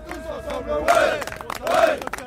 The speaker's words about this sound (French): Et là, je crois qu'on peut les applaudir.